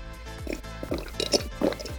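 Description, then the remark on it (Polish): Wet slurping and lip-smacking sounds as someone sips a drink, several quick liquid gulps and smacks in an uneven rhythm over a low background hum. “Daj no popić, bo mlaskam później, to słychać te mlaśnięcia, nie wiem co.”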